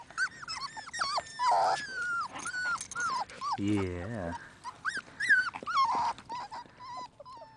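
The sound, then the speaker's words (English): Several puppies whimper and whine in high, wavering cries, with a short low growl in the middle, continuing steadily throughout. “As you can see from the inattentive mother dog and the laughs of the humans, the squalor of these infant animals is an amusement to the callous soul of humanity.”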